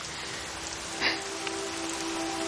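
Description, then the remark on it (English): Steady rain hisses throughout, a dense even patter with a faint low hum underneath and one brief brighter splash near the middle. No voices are heard. “It's raining.”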